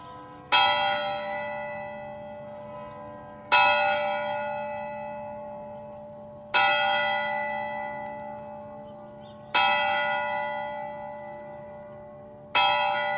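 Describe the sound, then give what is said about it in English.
A single large curfew bell in a Tudor town tolls five times at 8 p.m. at a slow, steady pace, each strike ringing loud and then humming away in a long fade before the next, with no voices. “By 8 p.m., the curfew bell is ringing, signaling an end to the day's activities and the time to secure your home for the night.”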